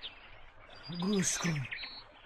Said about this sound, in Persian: گوش کن میشنوی؟ چه صدای دل فریبی دارن این پرندگان.